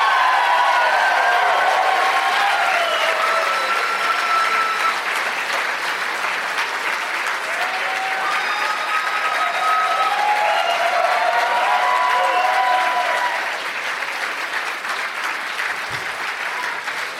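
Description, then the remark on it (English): Loud, sustained audience applause with cheering and whoops in Tempe, welcoming guests Josh Wolf, Jay Moore and Mark Wahlberg, a dense wash of clapping that holds steady for about seventeen seconds before easing slightly near the end. “Let's give a big warm welcome, Tempe, to Josh Wolf, Jay Moore, and Mark Wahlberg.”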